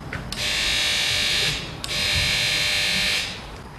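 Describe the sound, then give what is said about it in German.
A doorbell buzzer at a Caritas counselling centre, a neighbourhood office in Oberhausen, sounds twice, each harsh, steady electric buzz lasting over a second and starting with a click, separated by a short gap. No one speaks. “Ich schell mal an.”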